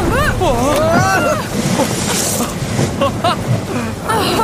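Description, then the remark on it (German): A gust of wind sweeps across open sea with a loud, rushing whoosh as a very large steerable kite, like a kitesurfer's and held by two thin but stable ropes, unfolds and inflates, over steady wave noise and a few wavering tonal cries near the start. “Mit der nächsten Windböe faltete sich eine Art Drachen auseinander, der von zwei dünnen, aber stabilen Seilen gehalten wurde und blähte sich auf”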